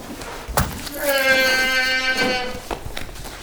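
A goat, held down and struggling as its neck is cut with a knife, lets out one loud, strained bleat lasting over a second, framed by sharp knocks and scuffling thumps just before and after.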